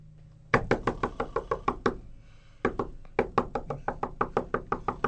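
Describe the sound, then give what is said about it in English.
Loud, rapid pounding on an apartment door at 2 a.m.: a fast run of about eight heavy knocks, a brief pause, then another longer volley of insistent banging. “It was a hard day at the office, and he is snoring peacefully, when suddenly, he's aware of an insistent banging on the door.”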